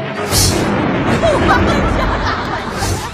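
A loud, sustained thunder sound effect rolls and rumbles throughout, mixed with crowd chatter and scattered laughter.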